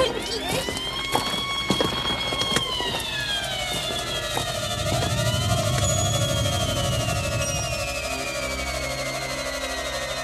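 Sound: fire engine siren arriving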